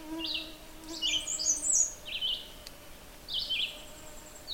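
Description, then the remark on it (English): Two birds sing, one a red-eyed vireo repeating a steady short phrase with pauses between, the other adding higher, more varied, erratic chirps, over a faint low background hum. “There's two birds singing. One is kind of a reliable song. It's a steady phrase and a pause.”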